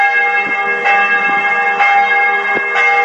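Church bells of the Temple of Saint Sava, beside the National Library, ring steadily and loudly, overlapping strikes every second or so with a long shimmering sustain that fills the air, no voices present.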